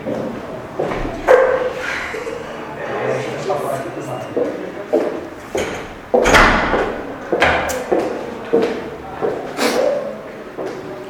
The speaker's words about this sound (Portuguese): Só fechar a porta ali.